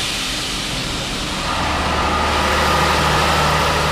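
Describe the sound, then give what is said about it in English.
A heavy engine runs steadily and loudly in a test cell at the Cummins Technical Center, a constant low mechanical drone with a broad roar on top that swells slightly partway through. No one speaks. “It's called cooled exhaust gas recirculation, or cooled EGR, and it's been designed and honed here in Cummins Technical Center, where engines in test cells run around the clock.”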